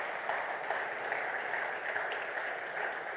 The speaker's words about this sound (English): Thanks. Applause will be good.